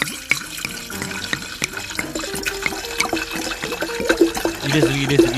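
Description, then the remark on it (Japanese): Sake glugs steadily from a bottle into a glass, filled to the brim for a toast, with bubbling, gurgling tones that climb in pitch as the glass fills over several seconds. “うわ、もうなみなみと入ったね。”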